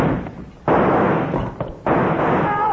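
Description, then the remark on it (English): Two loud gunshots crack out about a second apart, each a sudden blast that lingers in a rough, hissy roar, with no voices. “He fired at the first quick line.”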